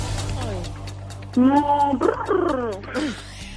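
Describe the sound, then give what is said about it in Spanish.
A person vocalizes a startled cow imitation, a cow in a field startled when another cow farts in its face: a loud, wavering moo that breaks into choppy, rising and falling bursts, ending in a short squeal-like cry, with no other talk. “¿Qué sonido crees que haría, y hazme el sonido, una vaca que está en el campo tranquilamente cuando llega su amiga vaca y se tira un pedo en su cara?”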